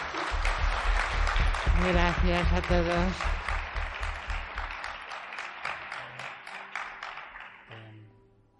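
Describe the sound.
An audience applauds in a dense, steady burst of clapping that gradually thins and fades out over several seconds, while a voice briefly speaks over it near the start.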